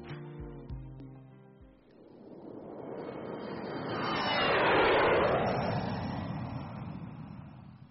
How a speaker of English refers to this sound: I can hardly believe that we are now sitting in the plane flying to Holland.